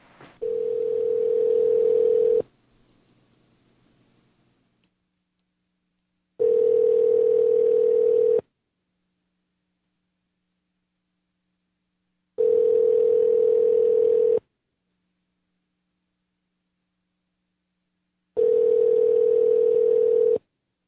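A phone's ringback tone repeats four times, each steady mid-pitched ring lasting about two seconds with long silent gaps between, and nobody answers. No one speaks.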